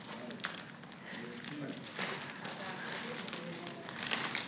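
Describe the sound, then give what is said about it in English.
Thick paper gift wrapping is torn and crinkled open, a steady stream of rustling, crackling rips lasting several seconds, with faint voices murmuring in the background. “You can go ahead and rip it open.”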